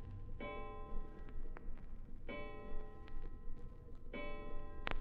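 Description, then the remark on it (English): A clock strikes three ringing, evenly spaced chimes, each tone lingering and fading, with soft ticking audible between the strikes against a quiet, faintly noisy background. “5 o'clock. 0 hour. It had come. And now it had gone. But was the clock right?”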